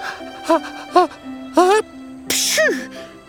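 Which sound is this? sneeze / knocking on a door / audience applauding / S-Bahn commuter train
sneeze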